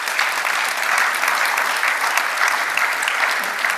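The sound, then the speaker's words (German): Steady audience applause, a dense wash of many hands clapping at an even loudness for the whole few seconds, with no voices standing out above it. “Ich finde, das ist eigentlich eher ein Buh wert als ein Applaus, aber ich glaube, der zählte nicht der Bundesregierung.”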